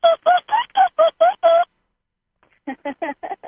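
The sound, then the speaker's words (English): A human voice imitates dolphin sounds: a quick, evenly paced run of seven squeaky, chattering calls, a short pause, then five more choppier, lower bursts. “Let's hear some dolphin sounds.”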